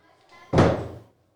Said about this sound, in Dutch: Het was midden in de nacht. In de villa was het stil. Ze lagen te slapen en toen ging de deur open.